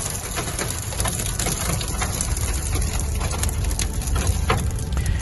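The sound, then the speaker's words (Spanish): A steady, dense patter of volcanic ash from an erupted volcano striking a car driving toward the south of the island, like fine gritty rain drumming continuously on the roof and windows, with a low rumble underneath and no voices; the ash has been falling for more than two days. “Han pasado más de 2 días y no ha parado de caer ceniza.”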